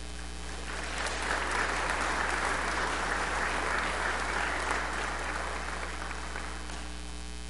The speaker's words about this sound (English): Clap, clap, clap.